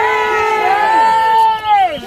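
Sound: protesters shouting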